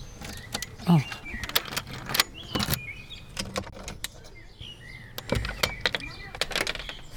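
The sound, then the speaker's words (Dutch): Metallic clicks and jangling as keys turn in the three locks of a house door one after another, with scraping and clunks spread irregularly over several seconds. “Dat waren veel sleutels. Ja. Het duurde heel lang voordat het open was.”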